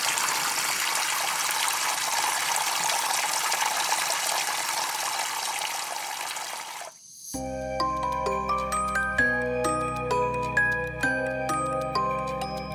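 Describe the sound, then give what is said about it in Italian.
Water pours out of a jug over a person's head in a loud, steady splashing rush for about seven seconds, then cuts off abruptly and gives way to light, tinkling music. “Tuttavia, quando entrò nella loro stanza, gli si rovesciò in testa una brocca d'acqua.”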